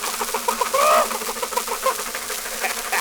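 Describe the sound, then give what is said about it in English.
A chicken in the road in front of a speeding car lets out a few sharp squawks, loudest in one drawn-out cry near the middle, over a steady hiss of background noise with no one talking. “Look out for that chicken!”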